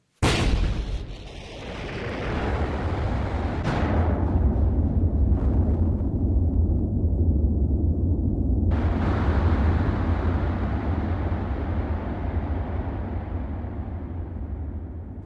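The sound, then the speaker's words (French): Heavy bombing explosions boom one after another, a few seconds apart, over a continuous deep rumble that never fades. The blasts are loud, with a sharp crack at the fourth impact. “Les bombardements s'intensifient.”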